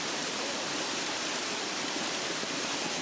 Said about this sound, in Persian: زیبایی که به نظر من داره یکی از نظر سرسبزی و درختاشه و رودخانه که اینجا در کنار باغات و درختها جاری هستش و جاذبه اصلیش هم که آبشاری که اینجا وجود داره.